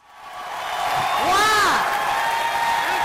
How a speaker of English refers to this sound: Arkansas Republican Senator Tom Cotton was shouted down by an angry crowd in Springdale when he was asked about gun laws and a vote last week by Senate Republicans that would expand gun access for the mentally ill.